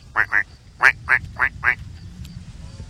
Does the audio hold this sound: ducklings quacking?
yes